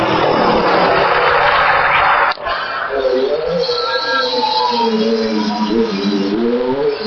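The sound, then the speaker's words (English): A loud rush of noise gives way to racing car engines revving hard, their pitch climbing and dropping repeatedly as the cars accelerate and shift up a hill climb track marked out with hay bales in dense woodland. “On one side of us, we've got the hill climb track still going on.”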